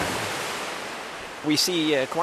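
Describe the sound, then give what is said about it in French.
A steady, loud rush of churning water from large artificial waves, averaging 1.1 m, crashing against a structure in a wave-test channel, made by a 10 m high steel wall moving back and forth to recreate storm conditions, with a voice starting to speak over the surge near the end. “Là, on voit qu'il y a des grosses vagues qui attaquent la structure.”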